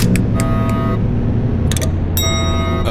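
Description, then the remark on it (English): A series of sharp, heavy switch clunks as spacecraft power bus breakers close one after another, punctuating a loud, steady machinery rumble with faint electronic tones humming underneath. “Setting primer. Captain? Not now, Eiffel. Closing power bus breakers.”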